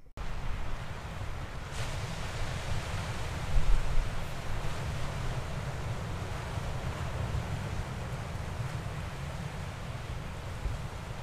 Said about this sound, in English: Yeah, I'm at the ocean! Yay! We're at the Atlantic Ocean off of New Hampshire.